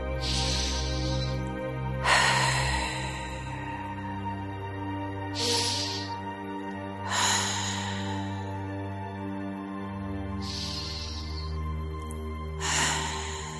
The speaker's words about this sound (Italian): Poi fai insieme a me 3 respiri profondi.